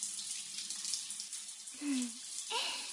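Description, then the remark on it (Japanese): Shower water runs in a men's shower room in a steady, bright hiss throughout, with a woman's voice briefly sounding over it near the end. “女子シャワー室が故障中でこっそり男子シャワー室使ってるんだから、ちゃんと見張っていてもらわないと。”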